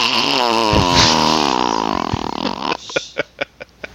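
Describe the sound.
A voice imitates an airplane with a raspy, buzzing, tooting drone that wavers in pitch for a few seconds, then breaks into a string of short, evenly spaced sputtering puffs.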